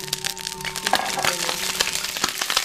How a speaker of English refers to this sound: You're swirling the oil in the frying pan now. Are you going to drop some water in it? Yikes.